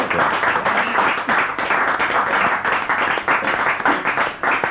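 A crowd applauds steadily, with dense overlapping claps forming a continuous, fairly loud patter that holds evenly throughout, with no voices over it.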